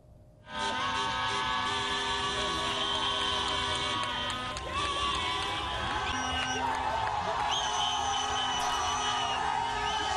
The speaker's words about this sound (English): Thousands booed a motorcade. You could hear them leaving the state house in Harare, which has been the scene of protests for hours. It's unclear whether the president was actually with that departing party, that motorcade.